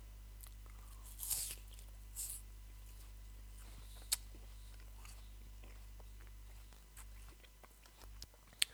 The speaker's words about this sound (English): Just a little sound effect there. I'm chewing on an apple.